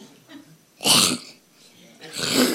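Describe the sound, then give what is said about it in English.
A person makes two loud, raspy throat-clearing hacks separated by a short pause, imitating someone choking on a swallowed bug to demonstrate the guttural CH sound of the Hebrew word chokma. The second burst is longer and rougher than the first. “And so, any guys ever swallowed a bug? Or partially swallowed a bug?”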